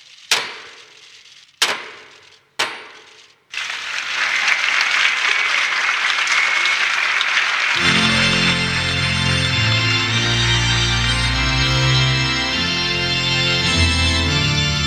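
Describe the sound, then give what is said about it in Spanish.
Three heavy, evenly spaced knocks by Cardinal Carlos Osoro strike the large wooden Puerta del Perdón (Door of Forgiveness) as a ceremonial sign of its opening during a celebration, each ringing out briefly, followed by a burst of sustained applause that gives way to music. “Vamos a escuchar esos tres golpes que fueron uno de los momentos culminantes de la celebración.”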